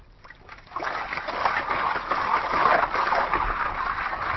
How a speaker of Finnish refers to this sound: No niin, eihän tämä vaskaus tämän kummempaa ole. Vaskoolia pyöritetään ja välillä heilutetaan sillä lailla, että vesi vie mennessään maata pois. Ja kulta tietenkin raskaampana painuu aina, kun vaskoolia heilutetaan, niin pohjemmaksi.